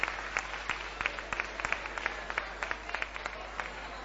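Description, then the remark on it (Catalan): Steady applause from a crowd in the assembly hall of Tarragona City Hall, a dense patter of many hands clapping with sharper individual claps standing out irregularly, moderately loud and continuous throughout, with no one speaking. “Nous aplaudiments que es reprodueixen a la sala d'actes de l'Ajuntament de Tarragona.”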